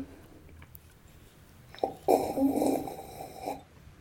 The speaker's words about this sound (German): Schön schlürfen, damit man auch hört, man trinkt. Ja, unbedingt. Das muss ja authentisch klingen. Corona extra habe ich getrunken.